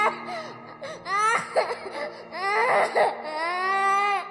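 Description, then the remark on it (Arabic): An infant cries in wavering, high-pitched wails that rise and fall, with short breaks between bursts, fairly loud, with no talking over it. “سماع بكاء طفل صادر عن مكان مجهول مثلاً يترك في أنفسنا تأثيراً محزناً”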